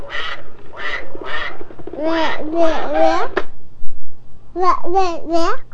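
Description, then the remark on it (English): Nine loud duck quacks from a toy being pulled come in three groups of three, with short pauses between the groups and a faint steady hum underneath. “Here is a duck.”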